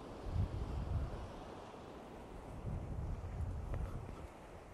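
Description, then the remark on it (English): Sea waves rush and wash against rocks below cliffs at least 200 feet tall in a continuous low roar, with surges swelling and easing, mixed with gusty wind buffeting the microphone, under a blue sky. “We've got the rocks below with the sea rushing against them.”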